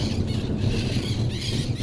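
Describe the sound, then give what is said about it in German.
Parakeets screech in a shrill, continuous chorus in the Pantanal during a thunderstorm as the first raindrops fall, rising a little toward the end, over a steady low rumble in the background. “Die Sittiche sind am Kreischen.”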